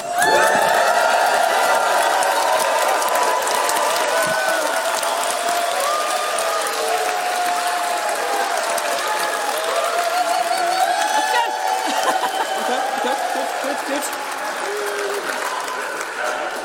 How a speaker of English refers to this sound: So can we have a cheer for Cliff?